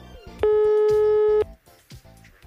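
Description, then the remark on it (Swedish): A single sustained telephone ringing tone of an incoming call, loud and steady for about a second, set against a faint, busy background of music or other sounds. “Då ringde hans reskamrat.”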